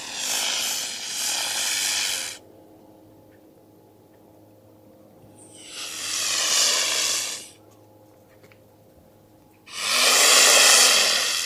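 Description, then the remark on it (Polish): A mute swan gives its alarm call: three loud, harsh, wheezy blasts, each about two seconds long with pauses between, with no other sounds. “Tak krzyczy łabędź niemy.”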